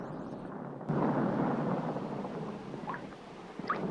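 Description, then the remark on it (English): A sudden crack of thunder from dark storm clouds rolling overhead breaks after a quiet moment, then rolls on as a loud, sustained rumble that slowly fades, with no voices present. “Dark storm clouds roll overhead.”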